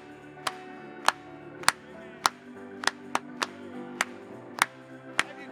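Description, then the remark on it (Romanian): An audience claps in a steady beat, about ten sharp claps landing roughly every half second over sustained music, moderately loud, with no talking. “Hai să o aplaudăm lui.”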